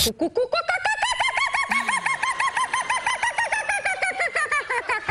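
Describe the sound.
A person's voice imitates a bird call on The Tonight Show, producing a long run of rapid, rhythmic warbling chirps that rise and repeat steadily, loud, with no talking over it.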